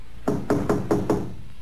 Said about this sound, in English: He was still puzzling over this annoying detail when he came upon the caretaker's cottage. After just a moment of hesitation, Harry knocked.